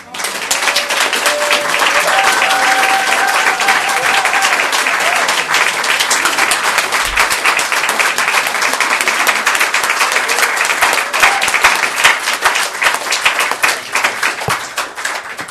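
A crowd applauds steadily and loudly for the full stretch, dense clapping filling the space with a few faint whoops or voices mixed underneath.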